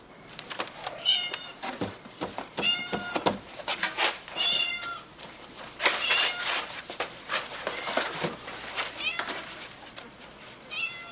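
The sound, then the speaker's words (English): A small kitten mews over and over, high-pitched and insistent, a close run of short cries with brief pauses between them that keeps going throughout. “Do you have the kitten? I have the kitten.”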